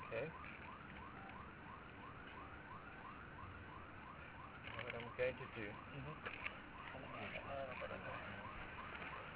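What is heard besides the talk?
alarm siren wailing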